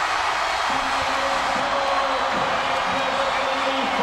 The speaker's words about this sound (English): I mean, it was deafeningly loud. That's the night that they set the record for the loudest crowd roar at an indoor stadium in history.